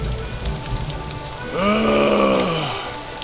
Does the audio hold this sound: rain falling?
yes